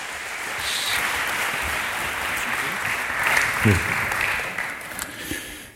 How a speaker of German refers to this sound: die beiden begrüßen wir nochmal mit einem richtig kräftigen Applaus.